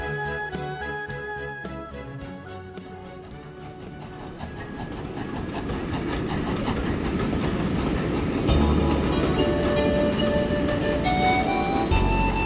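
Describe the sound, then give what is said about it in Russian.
A passenger train carriage bound for Moscow rolls along the rails with a steady low rumble and rhythmic clatter that grows louder, with faint tonal whines over the noise and no voices. “Иван Петрович зашел в вагон.”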